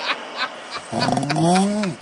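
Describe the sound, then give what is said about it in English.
A woman makes one long, strained, nasal goose-like honk that holds a buzzy pitch and then bends downward as it fades. Only faint breathy noise comes before it. “Sounds like a goose honk.”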